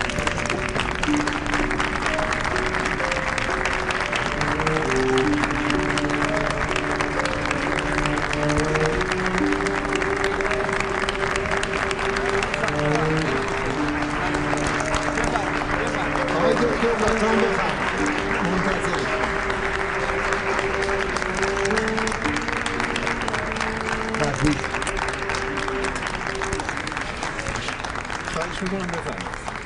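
An audience applauds as a doctor arrives, sustained, steady applause filling the whole half-minute, a dense crackle of many hands clapping at an even loudness, with sustained musical tones playing underneath.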